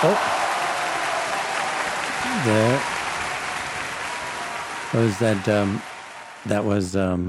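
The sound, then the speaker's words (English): A crowd applauds steadily with dense, continuous clapping that fills the whole clip, while a voice speaks briefly over it a few times. “That was a big crowd.”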